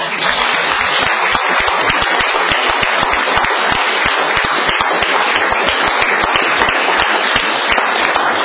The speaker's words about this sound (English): Thank you. That was brilliant. I think you all deserve a good round of applause.